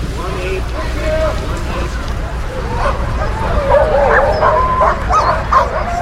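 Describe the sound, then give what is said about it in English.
A pack of sled dogs barks and yips excitedly, overlapping calls and whines over a steady low rumble, with some people talking faintly in the background. “Of any checkpoint, there's about an hour that's just devoted to taking care of the dogs.”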